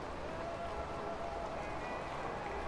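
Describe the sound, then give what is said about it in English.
Heavy rain from a storm drums steadily on a car roof, a dense, unbroken patter that fills the whole stretch, with faint sustained tones humming underneath. “The storm crescendos, rain hammering the car's roof like a thousand frantic fingertips.”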